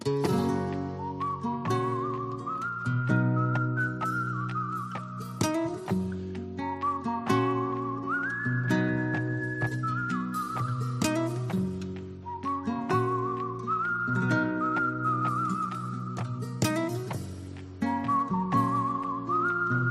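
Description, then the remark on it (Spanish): A clear whistled melody carries a slow, flowing tune over steady piano-like chords, the pure high notes sliding between pitches in long phrases with no talking. “¿esto es un teclado, es algún instrumento o es un tío silbando? ¿O una señora silbando? Soy yo silbando.”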